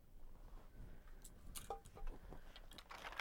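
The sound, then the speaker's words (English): Keys jangle in a few short, irregular bursts of bright metallic clinking, fairly quiet, with no one speaking. “Oh, you found the keys.”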